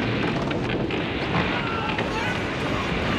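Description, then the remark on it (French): A loud, continuous roar of huge churning, crashing waves at sea, a dense rushing wash of water with no pauses, carrying off a boat that is capsizing and being tossed in all directions. “On se fait emporter par des vagues, le bateau chavire dans tous les sens.”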